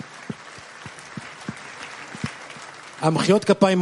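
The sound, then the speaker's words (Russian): An audience claps steadily for about three seconds, a dense patter of hands with a few sharper individual claps standing out, before someone begins speaking over the fading applause. “Аплодисменты слишком рано, никто из них не остался.”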